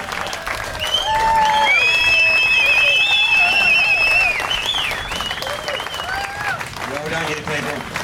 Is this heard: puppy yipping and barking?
no